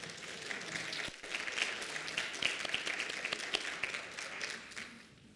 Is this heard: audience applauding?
yes